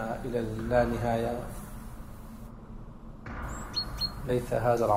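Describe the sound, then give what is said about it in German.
A few quick, high chirps from a small bird flit by in the middle, briefly interrupting a stretch of talking that resumes over a low background rumble. “Hoffentlich bringt euch dieser kleine Vogel meine Nachricht.”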